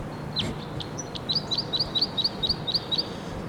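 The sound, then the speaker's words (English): A wild male bird calls repeatedly from a perch, a rapid run of about ten short, high-pitched chirps in an even rhythm, clear above a low, steady background rumble with no talking. “I'm not sure if this is the same bird that was here and recorded just prior to this, but it's in the same perch.”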